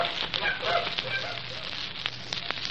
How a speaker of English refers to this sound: For the geese took flight and flew away.